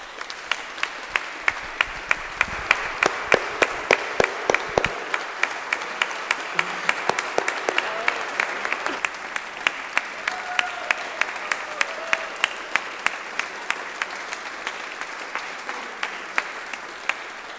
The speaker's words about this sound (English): is a reason for us to give ourselves a round of applause.